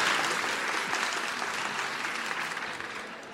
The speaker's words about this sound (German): Und deswegen jetzt einen dicken und großen Applaus.